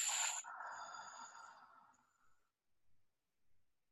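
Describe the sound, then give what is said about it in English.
A deep, quick, forceful breath drawn in through the nose, followed by a long, breathy exhale that fades out over about two seconds, then near silence. “You're going to take that breath and put it all the way in your body. And then simply exhale.”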